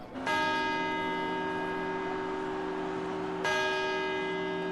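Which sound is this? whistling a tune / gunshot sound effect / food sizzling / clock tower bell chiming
clock tower bell chiming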